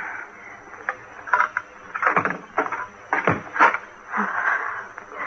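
A key scrapes and clicks in a lock with a few sharp metallic knocks and rattles, followed by a door being pushed open with a soft, drawn-out rustle.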